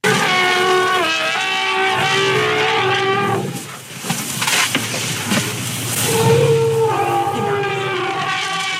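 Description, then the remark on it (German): A small herd of six elephants, reuniting after splitting up while feeding, exchanging greeting calls: overlapping low rumbles and long, harmonic trumpeting and roaring tones that swell, break into a noisy rough stretch, then resume in layered sustained cries. “Und das Tolle an diesem Buch ist, da sind dann auch immer wieder QR-Codes drin und da kann man dann mal reinhören, wie das bei den Elefanten auch klingt.”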